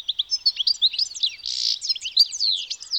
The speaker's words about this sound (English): The source of Vivaldi's inspiration? The European goldfinch. It's a tiny bird found throughout much of Europe, where it frequents gardens and roadsides.